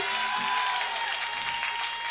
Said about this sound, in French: On applaudit